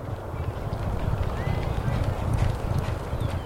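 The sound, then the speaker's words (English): Three thoroughbred horses gallop past during exercise at Turfway Park in Florence, Kentucky, on a warm spring morning, a dense, continuous drumming of muffled hoofbeats on a Polytrack synthetic track, steady and loud throughout with a faint airy background. “On a warm spring morning, thoroughbreds exercise at Turfway Park in Florence, Kentucky.”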